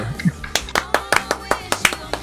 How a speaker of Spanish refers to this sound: Fuerte el aplauso.